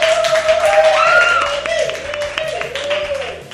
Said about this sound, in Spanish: Así que un fuerte aplauso a Mickey Mouse.